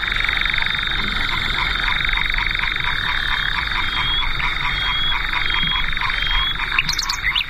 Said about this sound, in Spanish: Está con algún ruiseñor, los grillos, las ranas.